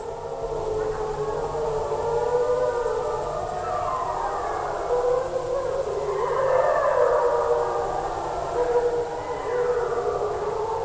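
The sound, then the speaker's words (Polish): Several wolves howl together in a steady chorus, a harmonic deterrent howl typical of wolves, long wails rising and sliding over one another, fairly loud and continuous, answering a person's howling in Białowieża Forest, Poland, in the 1990s; no one speaking. “To było takie typowe dla wilków, harmoniczne wycie odstraszające.”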